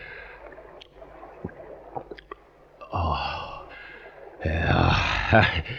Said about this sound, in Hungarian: Amen kőbe is, de jól esett ez a kis itóka.